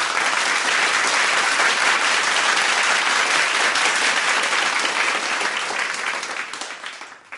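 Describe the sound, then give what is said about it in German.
Loud, sustained applause from a large circus audience at Circus Rubini welcoming the trapeze artists, a dense wash of many hands clapping loudly at once, steady for several seconds before fading slightly toward the end. “Die Leute im Zirkus haben Kiki und Kurt mit einem lauten Applaus begrüßt. Das heißt, sie haben ganz laut in die Hände geklatscht.”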